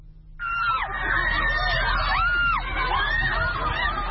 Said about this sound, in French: Les manifestantes ont scandé « Ne prenez pas nos emplois »